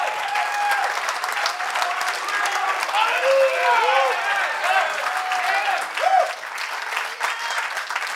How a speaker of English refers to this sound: Somebody just clap your hands for a moment and lift up a great shout unto God.